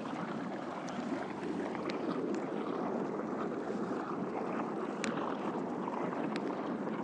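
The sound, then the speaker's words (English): A steady, dense rushing of water or air spurting out, like a churning jacuzzi, with occasional faint sharp ticks and pops scattered through the continuous hiss. No voices. “It's like a jacuzzi, the water coming spurting out, or air spurting out.”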